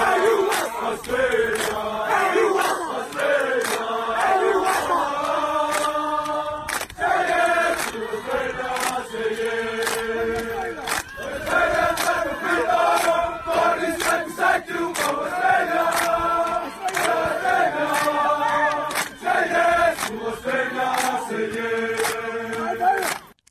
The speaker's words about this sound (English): Here are the sounds of the Tongan crowd cheering on Australia last week at their game.